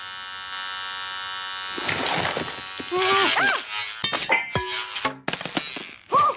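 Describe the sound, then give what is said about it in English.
Electric hair clippers buzz with a steady, loud motor drone that runs throughout, growing rougher partway through as voices talk over it. “That's like a little tiny chainsaw.”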